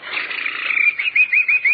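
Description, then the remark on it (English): A person whistles an imitation of a bird call, a steady warbling note that breaks into four quick trilled bursts toward the end, with no talking. “I did bird imitations.”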